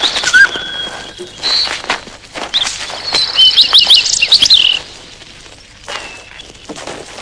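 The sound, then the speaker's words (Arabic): Lovebirds chirp in shrill, rapid bursts, with a dense flurry of high calls in the middle that thins to scattered chirps near the end. No one speaks. “وتستعمل طيور الحب أشجار الأكاسيا في كل شؤون حياتها.”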